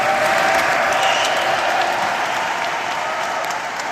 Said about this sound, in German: Als die 1300 Männer und Frauen im Hauptschiff der Kathedrale zum feierlichen Familienfoto antreten sollen, bricht plötzlich Jubel aus. Erleichtert und glücklich.